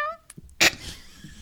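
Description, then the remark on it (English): A short, high-pitched cat meow trails off at the very start, followed by quiet and then one sharp, hissy burst of noise before things settle into a low background hum. “Your leader's a cat?”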